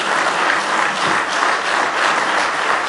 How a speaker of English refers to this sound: Now give him a good hand clap of praise if you love him with all your heart.